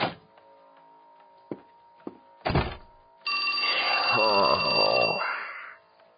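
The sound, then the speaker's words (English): A few dull thumps and knocks, then a telephone rings loudly and steadily for about two seconds before cutting off, with a voice murmuring underneath. “I swear to fuck, one of these days I'm gonna bolt that door shut, unplug the phone, and just take a nap for a change.”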